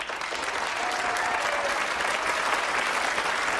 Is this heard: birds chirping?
no